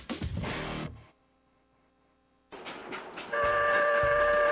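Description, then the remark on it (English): A steam train giving rides at a river festival in Sunbury chugs loudly, drops to a low hum for a moment, then rumbles back in before a sustained, steady horn blast rings out over the noise. “Chug into a bygone era at Sunbury River Festival.”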